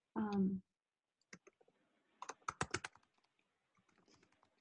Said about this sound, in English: Sorry about the typing sound.